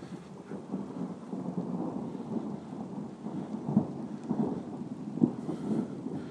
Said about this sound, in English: Thunder's got to be closer. We're now out in the rain.